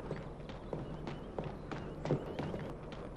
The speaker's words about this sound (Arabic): دعني وشاني، لقد فر حماري وسيسقط حمله.